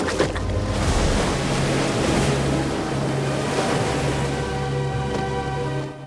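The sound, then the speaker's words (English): A rowing boat moving through the sea, with steady splashing and sloshing of waves against the hull, continuous, plus a faint low drone and some wind noise. No one speaks. “They get in and the boat is pushed into the water.”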